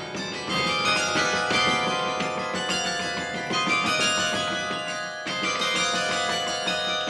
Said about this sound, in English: The 23-year-old has no time to spare before an automated clapper tolls 12 noon on a 2-ton bell just overhead.